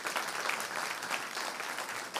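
An audience claps for the speaker's wife, a steady, dense, even patter of many hands at a moderate level with no voices breaking through.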